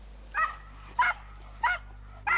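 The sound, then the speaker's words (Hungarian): Hunting dogs bark four times in a steady, evenly spaced rhythm, each bark short and sharp, over a faint low hum with no one talking; the dogs are searching the forests of the Börzsöny near Kemence, Hungary, by the Slovak border, in a hunt for a bear. “Vadászkutyákkal járták a környékbeli erdőket órákon át.”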